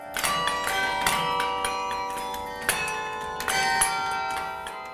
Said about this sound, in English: I think it's important to put something familiar so that one can relate to and say, oh, they're actually making music. And probably a lot of them don't really know that it's real bells being played by a real person.